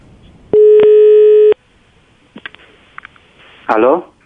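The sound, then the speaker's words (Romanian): A single long, steady telephone ringing tone sounds for about a second after dialing on a call placed by Radio Zoo, followed by a few faint clicks and then a brief burst of someone speaking. “Bine, mai formă o singură dată.”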